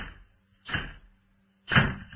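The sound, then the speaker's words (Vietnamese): Two loud wooden bangs about a second apart, two window shutters slamming shut as a cold gust of wind blows in, each with a short rattling decay. No voices are heard. “thổi tung cái vạt áo ngủ của Liễu, tiếp theo với tiếng đập đánh ầm của hai cánh cửa sổ”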